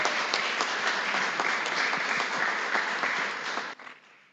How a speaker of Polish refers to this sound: Gorące brawa dla was.